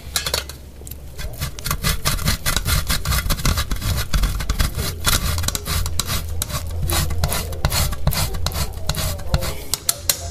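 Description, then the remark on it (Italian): 100 g of pecorino romano cheese being grated in quick, steady rasping strokes, a continuous scratchy rhythm at even loudness over a low background hum, with no one talking. “Ne abbiamo grattugiato 100 g, quindi.”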